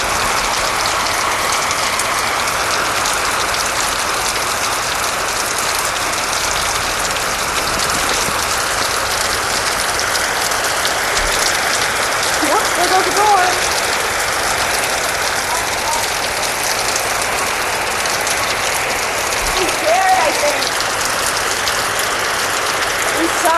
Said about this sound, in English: Judging by the sound of the thunder, I think the storm's gonna calm down.